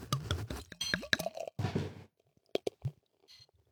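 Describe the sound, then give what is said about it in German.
Clinks and clatters of a bottle of Meisels Pale Ale, brought back from a holiday in Scandinavia, knocking against a drinking glass as it is poured for drinking. Several sharp hits come in quick succession, followed by a few softer taps, with no one talking. “Und was soll ich dir sagen, ich habe tatsächlich eine Flasche mit zurückgebracht. Und die trinke ich jetzt.”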